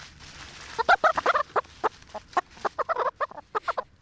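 Several chickens cluck in a chook pen in short, irregular bursts, a busy overlapping chatter of mid-pitched clucks with brief pauses, and no voices.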